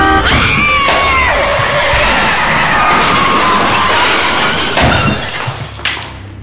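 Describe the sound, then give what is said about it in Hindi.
Loud tyre and brake squeals from several vehicles in fast road traffic cut into a violent crash as a bus hits a woman crossing the road, with shattering glass and clattering debris, then a second heavy impact before the noise dies down. “पर अगले ही पल मुझे एक साथ कई गाड़ियों के ब्रेक्स की आवाज के साथ एक बस की टक्कर से उसकी बॉडी उछलती हुई दिखाई दी।”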